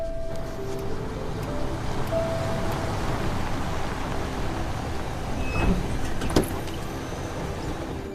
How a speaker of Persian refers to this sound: بزن کنار، زود باش وایسا. فقط یه مایل تا خونه مونده، دیگه داریم میرسیم. ماشین رو نگه دار.